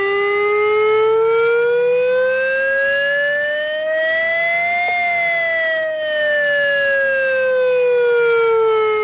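Civil protection warning sirens on the Castell Vell hill and Punta de Canó in Flix, Catalonia, sound loud and continuous during a Tuesday 10 a.m. test, the tone slowly rising for several seconds and then gliding back down, with no voices and a faint rush of strong wind underneath.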